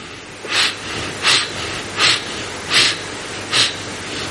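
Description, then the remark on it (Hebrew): Five short, sharp sniffs of someone smelling spices (besamim), spaced evenly about three-quarters of a second apart, each a quick airy inhale over a quiet background with no talking. “רבנו הארי כתב, בשער הכוונות, שם, בהלכה של בסמים, שכשמריח, השתדל להריח חמש פעמים. זאת אומרת, חמש נשימות יעשה.”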